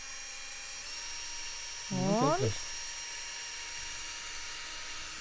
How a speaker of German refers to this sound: Oh, und da bohrt es schon klasse, rein. Da kommen schon das die Späne reicht, ne? raus. Super, das reicht schon fast. Das ist schon die erste Mulde.